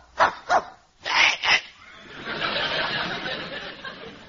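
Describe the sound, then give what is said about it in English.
A dog named Wolver gives four sharp, loud barks in two quick pairs, then lets out a long, breathy, rough whimper that trails on for a couple of seconds. “my faithful St. Bernard comes to me with a keg of brandy around his neck.”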